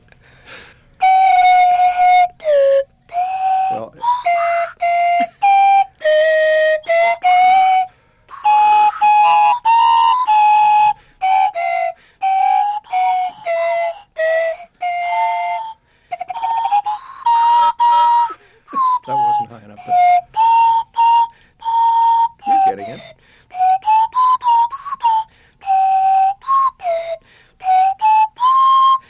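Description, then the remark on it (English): Two slide whistles play a wobbly, sliding melody together in short phrases with brief pauses, loud, their pitches swooping up and down through the tune, in Fairbanks. “The concert slide whistle duo”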